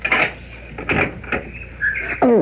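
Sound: door being opened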